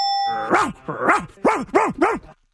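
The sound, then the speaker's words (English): A person's voice imitates a dog, giving five loud barks in a quick, uneven rhythm, each one a rising-then-falling yelp, with a short steady tone at the very start. “… being a dog for some reason.”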